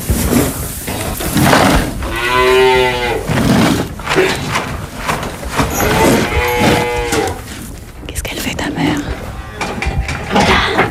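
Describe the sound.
Cows moo loudly in a barn, two long drawn-out calls a few seconds apart, with more lowing and shuffling around them and people talking.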